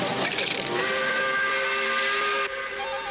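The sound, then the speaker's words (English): A loud five o'clock steam whistle blows at quitting time in one long, steady blast, its shrill tone laced with hissing steam, dipping slightly just before the end. No voices are heard. “Hey, that's the 5 o'clock whistle.”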